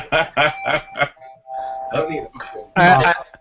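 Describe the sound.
A doorbell chimes in a quick series of loud, bright bursts, and a steady ringing tone hangs between them. Voices or laughter break in over the ringing.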